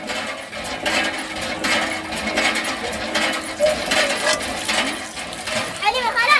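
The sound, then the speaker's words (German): Metallic clanking from hand water pumps at the Dar el-Keir refugee camp in Chad, near Lake Chad, where mostly women and children pump drinking water into plastic buckets and canisters. The clanking repeats in a rough rhythm, with scraping squeaks and rattles mixed in, steady and fairly loud, while background voices murmur throughout. “Sie scheppern, sie quietschen und sie sind lebensnotwendig.”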